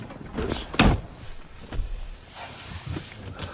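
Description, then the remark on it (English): A car's power window being put up because of a young bear nearby: a sharp clunk, a lighter knock about a second later, then a low mechanical rumble that fades. No one speaks. “I'm gonna have to put my window up because of you, Bear.”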